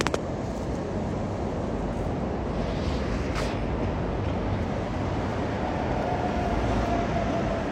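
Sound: tram arriving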